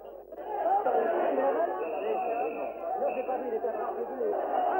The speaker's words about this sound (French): La foule crie en ce moment à mort à l'assassin. La minute est épouvantablement bouleversante.